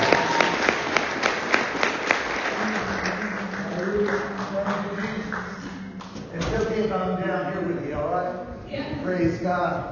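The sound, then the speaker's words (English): An audience breaks into fairly loud, brisk applause welcoming a reverend who is to deliver the first message of 2023; it tapers off after a few seconds, giving way to a man speaking. “So give him a hand clap.”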